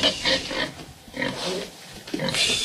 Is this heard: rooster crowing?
no